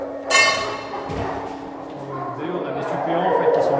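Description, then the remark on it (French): Several French gendarmerie working dogs at a canine training centre bark and whine excitedly at midday feeding as kibble is handled in front of them, opening with one sharp, loud bark followed by a steady stream of yelps and whimpers, with a voice briefly audible underneath. “vu que c'est quand même des chiens de travail, ils ont des grosses dépenses énergétiques. Et voilà, le midi, ils ont envie de manger”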